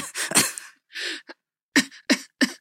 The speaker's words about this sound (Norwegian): kan du bare telle til tre, og så hoste, ja. Og så blir du hoste, og så bare dra den lille troen, så går det rett ut.